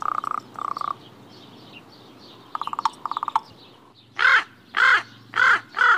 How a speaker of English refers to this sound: Here are some examples of raven speech as recorded by the Cornell Lab of Ornithology.